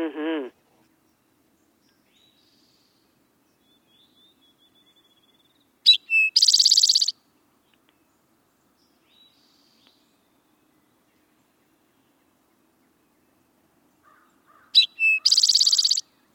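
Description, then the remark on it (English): An Eastern Towhee sings its drink-your-tea song twice, each phrase a couple of short clear notes followed by a loud buzzy trill, separated by a long pause with faint tones. “the classic drink your tea song of the Eastern Towhee”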